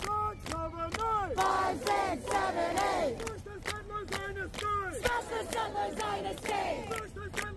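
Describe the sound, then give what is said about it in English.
A large protest crowd at the Columbia encampment chants "Open up the prison doors!" loudly in rhythmic unison as police enter to arrest anyone refusing to leave. Many raised voices rise and fall together, punctuated by sharp shouted bursts that keep a steady, driving beat. “This is the way it sounded with police entering the encampment at Columbia and preparing to arrest anybody who refused to leave.”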